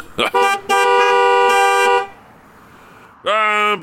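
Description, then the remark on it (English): Car horns honk loudly in backed-up traffic in Detroit: a short toot, then a long sustained blast, and after a pause another honk with a bending, wavering pitch. No one speaks. “Oh, look, cars are backing up.”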